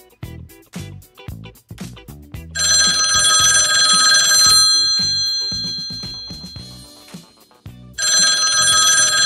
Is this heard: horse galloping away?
no